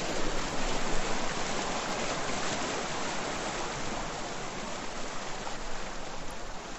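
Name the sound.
mountain river water flowing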